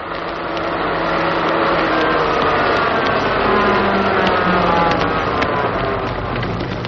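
A car arriving on a Wednesday night, its engine rumbling steadily under a constant wash of hissing noise, like rain, holding an even loudness throughout with no voices.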